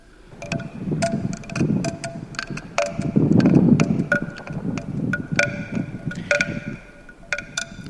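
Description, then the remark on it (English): Steady wind rushes and gusts while wind chimes ring out in scattered, overlapping strikes, their bright tones lingering and fading. There's no talking, just the breezy wash and the irregular chiming. “You can hear a sense of wind there and of wind chimes.”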